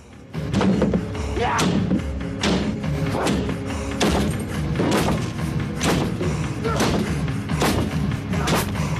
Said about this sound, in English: He looks about him, goes to find a fire extinguisher, and charges at a locked door with it.